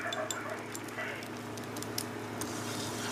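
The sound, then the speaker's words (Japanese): Steady frying sizzle from garlic in a pan, a constant hiss dotted with sharp little pops and crackles, alongside a low, even hum throughout. “で、ここにニンニク入れたらいいですか。 そうですね、そうですね。 はい、入れます。わ、あ、ジュージュー落としてきた。”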